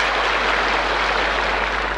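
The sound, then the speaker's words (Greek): An audience applauds steadily, a dense wash of many hands clapping at an even, loud level throughout with no voices rising above it. “Χειροκροτάτε, αλλά μην χαίρεστε τόσο γρήγορα.”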